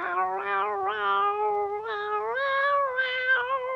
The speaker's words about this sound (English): At that, Queenie the cat meowed.